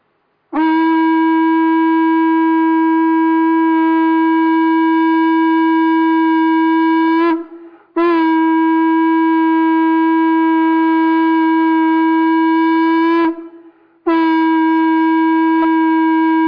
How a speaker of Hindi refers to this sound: सनातन संस्कृति के अनुसार शंख ध्वनि को बहुत बड़ा महत्व है, तो हम सभी सनातनी है।